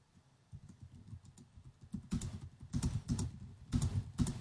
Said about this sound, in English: Sorry about the keyboard noises.